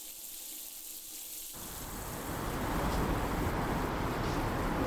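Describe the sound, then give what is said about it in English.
Running water starts with a hiss, building from a thin spray into a steady, full rush. It is constant, like a cold shower turned on and left running as someone washes off blood and dirt, with no voices. “Gemma steps into the cold shower and washes off the blood, the dirt, and Helena.”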